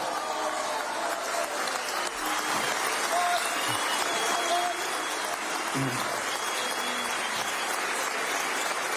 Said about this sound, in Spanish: Y sí quiero que le deis un aplauso muy fuerte a este pedazo de equipo que se lo merece.